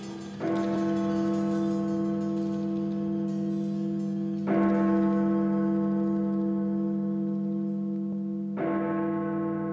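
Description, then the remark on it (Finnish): The Big Ben clock bell strikes three times at slow, even intervals, a deep, resonant sound. Each loud toll sustains a rich hum of overtones that lingers and overlaps with the next stroke. “Big Ben on ajassa.”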